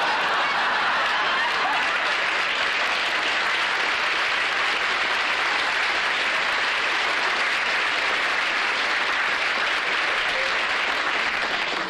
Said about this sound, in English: Applause doesn't go to my head, you know. It doesn't. Some people let it bother them.